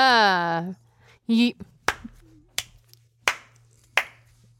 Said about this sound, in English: I'm condescendingly clapping. Can you tell? No, it sounds like a regular clap. Yeah, it just sounds like a regular clap.